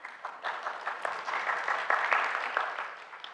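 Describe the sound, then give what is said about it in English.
Thin, scattered applause from a small crowd, a patter of claps spread across the whole three seconds at a modest, fairly steady level without building into a loud ovation. “Thank you for your tepid applause.”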